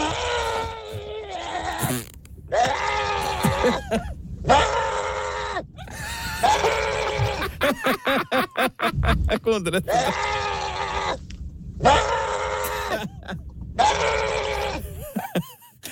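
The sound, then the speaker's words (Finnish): A person imitates a screeching llama as an animal karaoke entry, with a series of loud, harsh, strained bleats, about six drawn-out cries separated by brief pauses and a burst of rapid choppy sounds midway. “Se oli rääkyvä laama.”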